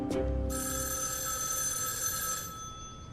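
A telephone rings with a bright, sustained electronic tone that holds steady for about two seconds, preceded by a brief low thump, then fades out; no one speaks.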